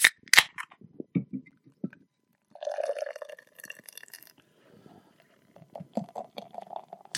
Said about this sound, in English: Well, of course, we're pouring it pretty vigorously out of the can here.